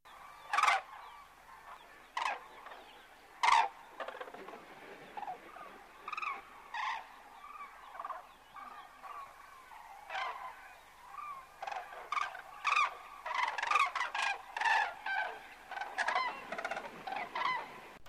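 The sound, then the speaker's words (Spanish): Loud trumpeting calls of common cranes arriving and dancing at Skara, Sweden, ring out repeatedly, a chorus of overlapping honking bugles that grows busier and more layered toward the end, with no talking. “La llegada y el baile de las grúas en Skara es un acontecimiento muy famoso.”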